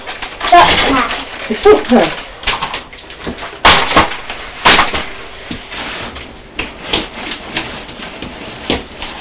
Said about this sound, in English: Oh, you're making a lot of noise throwing those packets of wipes into the box.